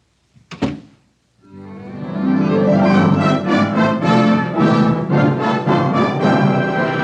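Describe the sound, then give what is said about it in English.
A door shuts with a single dull thunk at the end of the second act of the Skippy Hollywood Theater's radio presentation of For the Good of the Show, then after a short silence loud, sustained orchestral music swells in and keeps playing. “Close the door.”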